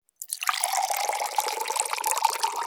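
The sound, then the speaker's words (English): Hot water is poured into a jar in a kitchen for an experiment, a steady, continuous, fairly loud stream starting abruptly and running without pause to the end. No one speaks. “First, put hot water in a jar.”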